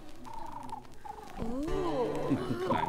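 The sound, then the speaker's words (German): A human voice imitates a pigeon's cooing with soft, warbling, throaty tones that rise and fall. The cooing follows a few brief higher vocal notes. “Und jetzt bin ich eine Taube.”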